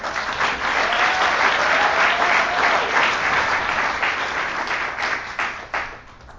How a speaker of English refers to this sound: And now we're going to bring everybody out to take one last look. If we can give everybody a round of applause as they come out.